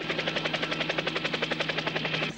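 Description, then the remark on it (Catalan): Rapid, steady thudding of helicopter rotor blades chopping the air as the helicopter rises toward the sky, loud, with a constant engine whine underneath, cutting off abruptly after a couple of seconds. “Les aspes d'un helicòpter s'eleven cap al cel.”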